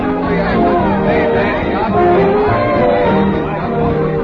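Steady hubbub of many overlapping voices at a party for a returned hero, dense and continuous with no single speaker standing out, holding a fairly loud, even level throughout.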